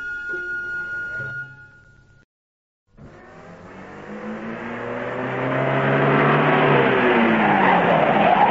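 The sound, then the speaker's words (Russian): A car engine idles, cuts out briefly, then roars up, revving with rising pitch and growing steadily louder as the vehicle accelerates away. “Машина привезла их в лес.”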